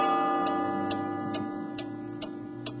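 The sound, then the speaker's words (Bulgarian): A large wall clock hanging above a director's head behind his desk in his office ticks steadily, six crisp, evenly spaced beats about half a second apart, set against a sustained tonal hum in the background with no talking. “Важно допълнение към общата картина е големият стенен часовник над главата му.”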